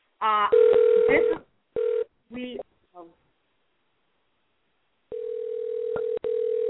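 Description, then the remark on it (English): A telephone dial tone during an incoming call: a few short electronic tone bursts, then a pause, then a steady, fairly loud hum that continues to the end with one brief break. “Oh, that's Top Cat calling him back.”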